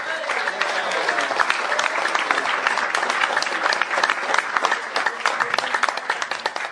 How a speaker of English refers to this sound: There's some well-deserved awards, and I couldn't think of better chapters, better people to to get them. Let's give them all a round of applause again.